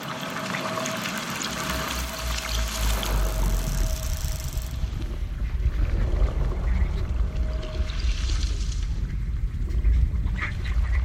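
An underwater recording made from a boat, filled with dense crackling hiss, a deep steady rumble of the boat's machinery, and a faint sustained tone running through the first half, continuous and fairly loud throughout.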